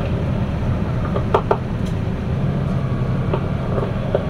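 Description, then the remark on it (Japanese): A steady, loud rumble of a five-car train bound for Kurayoshi, Japan, crossing a steel railway bridge, heard from inside, with a few sharp metallic clanks and knocks scattered through the roar. No one speaks. “まもなく鉄橋を通ります。放送を控えさせていただきます。”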